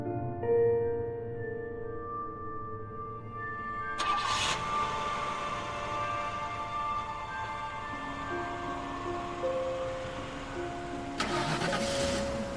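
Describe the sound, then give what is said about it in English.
At night, a car engine cranks and catches with a sudden burst, then settles into a steady running hum that shifts pitch as the car pulls out of a parking lot beside a gas station, with another brief surge near the end. “We follow her as she pulls out of the lot.”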